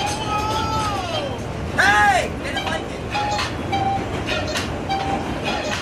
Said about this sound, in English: To me, this is the most evocative piece because I never in a million years thought I would miss anything about the subway. But oddly, I do. And I miss the sounds.